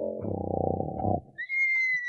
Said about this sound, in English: Listen to that little fellow snore.